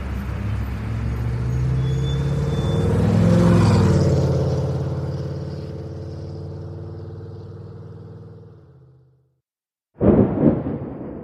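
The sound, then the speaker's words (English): Heavy vehicle engines rumble and drone as traffic rolls past, swelling as one passes, with a brief brake hiss. The noise fades to silence, then a short burst of sound follows. “We're moving. Hmm? The traffic.”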